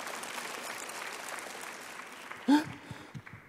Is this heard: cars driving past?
no